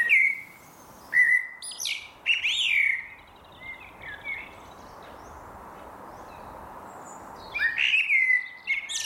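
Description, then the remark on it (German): Outdoor ambience at a former hard-coal mine in Wetter-Vosshöfen, with birds singing in bright, chirping bursts, several phrases at the start and again near the end, over a steady soft background hiss with no one speaking. “Witten, Zeche Nachtigall, Wetter Vosshöfen, ehemaliges Steinkohlebergwerk, Zeche Freier Vogel.”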